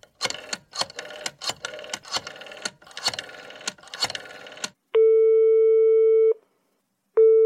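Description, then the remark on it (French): A man calls a general practitioner in Montpellier: a quick burst of rhythmic mechanical clicking, like a phone being dialed, gives way to a steady electronic ringback tone that sounds for about a second and a half, pauses, then starts again. “il attrape le téléphone. Il a trouvé le numéro de Jean, qui est maintenant médecin généraliste à Montpellier. Et il l'appelle.”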